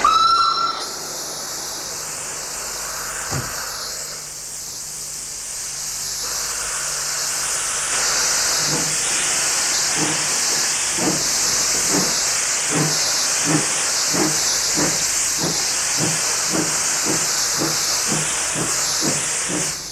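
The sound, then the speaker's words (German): A steam train bound for Beijing, carrying women to the Fourth World Conference on Women in September 1995, pulls away amid loud, steady hissing steam, its chuffing beats starting slowly and quickening into a regular rhythm, with no one talking. “Der Zug fährt in wenigen Minuten ab.”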